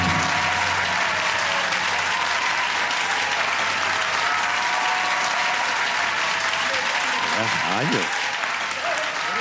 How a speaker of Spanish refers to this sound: ¿Cuántos votarían por Pedro Pierluisi? ¡Aplauso! ¿Y cuántos votarían por Jennifer González? ¡Aplauso!